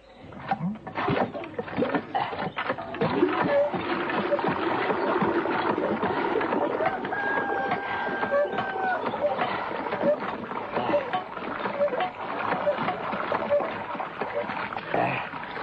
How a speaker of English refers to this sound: It wouldn't be so hard-hearted as to refuse a weary traveller a sip of water. Well, there's the pump. Help yourself. Oh, thank you.